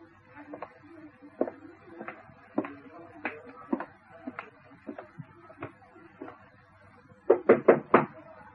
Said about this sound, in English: No need to stand knocking, my dear. Come in.